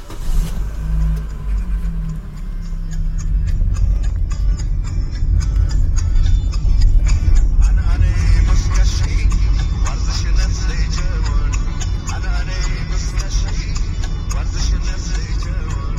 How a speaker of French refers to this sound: Le soleil ne s'est pas encore levé, la mosquée bleue n'est encore qu'une grande ombre dans la ville silencieuse où résonnent seulement les sabots des chevaux sur le bitume.